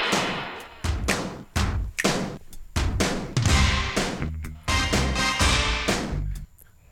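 An 80s pop song's instrumental intro played on Absolute 80s radio, with loud, punchy stabs and drum hits landing in a steady, driving rhythm, dense and full-sounding, with no singing or talking yet.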